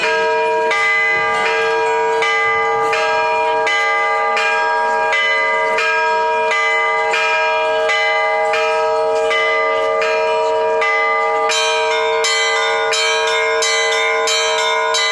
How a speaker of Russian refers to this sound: Как собирает церковь свой народ? Благовестом. Слышны удары колокола, он словно зовет.